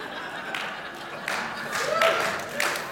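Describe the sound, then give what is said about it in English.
An audience at a pastor's church talk claps at a musical reference in a steady, crackling wash that swells in several waves, with brief crowd voices and a short whoop mixed in. “You clap because you know it's right up your pastor's alley.”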